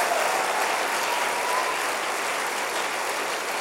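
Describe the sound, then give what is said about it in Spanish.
A crowd claps for the Lord, a steady, dense, continuous wash of many hands with no pauses, staying loud and even throughout with no voices standing out. “Le das un aplauso al Señor por eso.”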